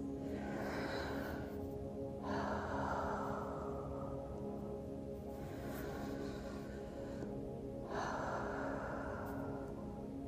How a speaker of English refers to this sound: Now, let's get a little bit more relaxed. I want you to breathe with me, in and out slowly through your mouth, like this.